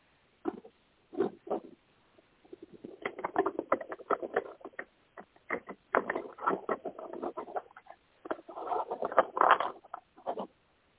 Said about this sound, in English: Okay. I'm going to shuffle the cards.